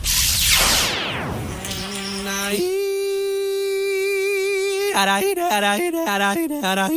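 Loud buzzing like a flying insect: whooshing sweeps at first, then a steady droning hum that shifts higher in pitch and breaks into short, choppy pulses near the end.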